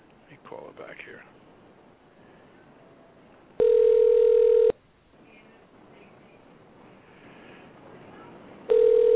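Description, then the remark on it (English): A phone line ringing on a call back to a caller who had dropped off: loud, steady buzzing ring tones, about a second long, sounding twice with a few seconds of quiet line hiss between. Faint voices murmur briefly at the start. “Well, it's ringing.”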